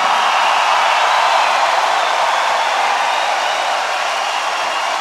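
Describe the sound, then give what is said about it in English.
A large audience applauds the Christchurch Orchestra, a dense, steady wash of clapping that holds at a fairly loud level for the full five seconds with no voices over it. “Please, a round of applause for the Christchurch Orchestra.”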